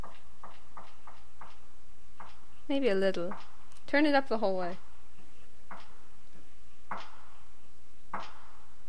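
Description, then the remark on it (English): Footsteps tap out in a steady, unhurried rhythm, faint at first and growing a little more distinct as they come closer. A short burst of speech briefly cuts across them. “I hear footsteps.”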